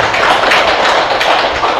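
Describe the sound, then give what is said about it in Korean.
An audience claps steadily for the lecturer at the end of a lecture, a dense, bright patter of many hands with no voices breaking through. “네, 지금까지 강의해주신 강사님께 박수 부탁드리겠습니다.”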